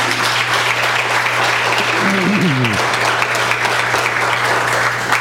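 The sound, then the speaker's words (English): Steady, loud applause from a crowd fills the whole clip, a dense continuous patter of clapping, with a brief low voice or cheer rising under it midway and a constant low hum beneath. “Give him an applause, will you please?”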